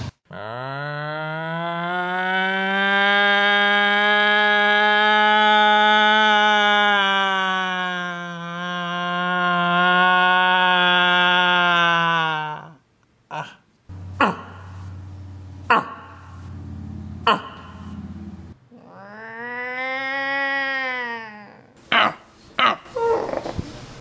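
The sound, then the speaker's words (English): A person imitates a rutting moose with a long, loud, nasal bellow held for about twelve seconds, one of various human-generated moose calls heard around the valley. Scattered knocks and clatter follow, then a second, shorter call that swells and falls. “Here's what some of the various human-generated moose calls heard around the valley sounded like.”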